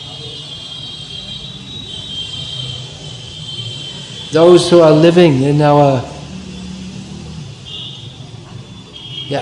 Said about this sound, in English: all this noise, this is just considered normal. Traffic noise.